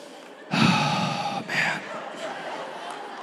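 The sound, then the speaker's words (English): A voice imitates exaggerated heavy breathing, mocking Christians who treat breathing as being more connected to God: a loud, breathy inhale-exhale followed by a second shorter gasp, trailing into quieter breathy sounds. “Like, why do people think breathing means that you're more connected to God, you know?”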